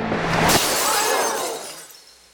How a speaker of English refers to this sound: At one end of the stage, a gun, loaded in front of the audience. At the other end of the stage, the magician. In between the two, a pane of glass. The gun is fired directly at the magician. The glass explodes.